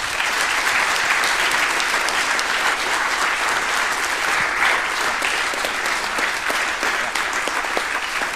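Sustained audience applause for the presenter at the end of a talk, a dense steady wash of many hands clapping at a constant loud level for several seconds, with no voices standing out.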